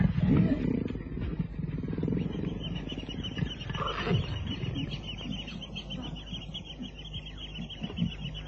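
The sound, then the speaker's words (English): A leopard taking bait at dawn calls with deep, rasping grunts repeated in an uneven rhythm, loud, over a steady outdoor background hum. “But it was not a lion that was taking the bait. It was a leopard.”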